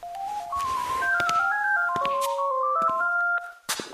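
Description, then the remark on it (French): A telephone rings with a melodic ringtone, a stepped sequence of clear electronic notes playing steadily and fairly loud for several seconds before cutting off, with a few clicks near the end. “Le téléphone sonne, je...”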